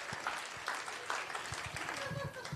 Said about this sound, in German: Hört auf da zu klatschen! Der fühlt sich bestätigt! Klatsch! Der findet das dann witzig!